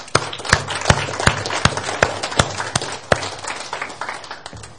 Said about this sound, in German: Bitte schön. Ein Applaus.